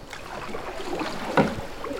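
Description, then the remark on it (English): A small boat glides along a river, with a steady wash and lapping splashes, plus one brief louder slosh near the middle, as if from a paddle or hull. “On the river.”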